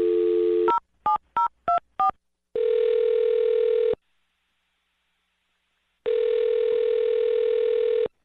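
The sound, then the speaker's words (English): A steady dial tone cuts off into five quick keypad beeps, then two long electronic ringback tones separated by a pause of silence, clear, with no talking. “I'm going to dial her phone number right now, okay?”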